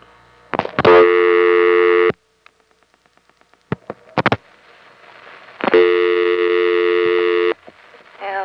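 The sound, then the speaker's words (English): A telephone handset in Maryland clatters as it's lifted to call the operator, then a steady dial tone hums, followed by a few short clicks and tone bursts of dialing, and the dial tone returns, loud. “So let's pick up the phone and see what the operator says is the local calling area.”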